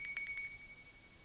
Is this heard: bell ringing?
yes